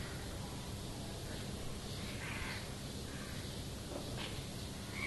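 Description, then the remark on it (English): A black crow caws a few times in harsh, scattered bursts over a steady hiss of outdoor background noise. No one speaks. “Ka, ka, ka, ka, ka. Even amongst the birds they will find swan, white swan, and the black crow.”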